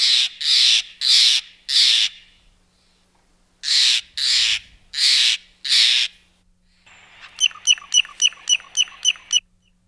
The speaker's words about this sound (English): All right, next up, if you're at a campground, you'll probably see one of these fellas bouncing around trying to steal your food, the Steller's Jay.